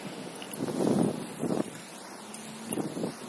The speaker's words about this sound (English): Here's the first bus of the morning.